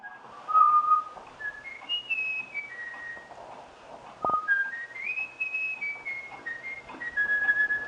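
A bullfinch, taught by the late researcher Jürgen Nicolai through regular whistling to it, whistles a human-taught melody, clear pure tones stepping up and down in a flowing tune with a brief pause midway, alone.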